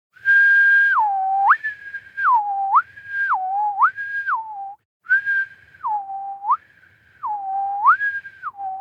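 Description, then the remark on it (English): A person whistles a clear two-note test tone, alternating between a higher and lower pitch in a steady repeating pattern, fairly loud, with one brief pause midway and no talking. “I'll whistle the tone while we wait.”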